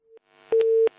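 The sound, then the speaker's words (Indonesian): A steady telephone busy tone sounds after a caller's phone line drops during a call-in question, a flat electronic beep holding for about a third of a second, preceded by a short softer blip, with faint line noise around it. “Baik, terputus saat kita akan angkat pertanyaan kembali melalui chat WA yang sudah masuk.”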